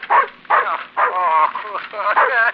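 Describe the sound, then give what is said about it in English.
A dog barks in a run of about five loud, strained barks and yelps, some drawn out into whiny howling tones, with no talking. “Come here, wolf, old dog. My very dog has forgotten me.”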